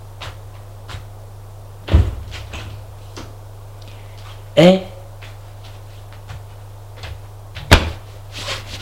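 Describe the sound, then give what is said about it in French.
A door off a dark upstairs corridor opens with a short creaking squeal in the middle, framed by a couple of sharp knocks or thuds over a steady low hum, with a brief voice heard. “Porte qui s'ouvre.”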